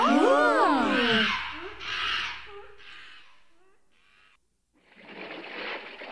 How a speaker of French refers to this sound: Ici, dans le centre de l'île, il y a une jungle. Regardez, il y a des singes.